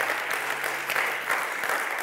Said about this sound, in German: Nicht so lange klatschen, geht von meiner Zeit ab, okay?